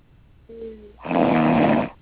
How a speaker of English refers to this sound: Hello? Does it sound like she's snoring? Sounds like that's a little piggy. Do we try to wake her up?